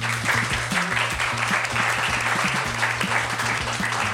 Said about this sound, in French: On l'applaudit.